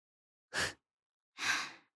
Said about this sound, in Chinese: 你看起来很热啊。也是，这么闷的天，口罩里还带着这种东西，是挺累的。我都听到你的喘息声了。